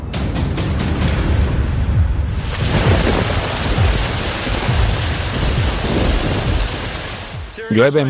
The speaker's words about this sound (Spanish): Llueve mucho.